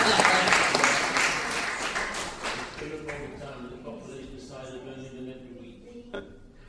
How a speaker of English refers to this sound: I think it deserves a clap for that.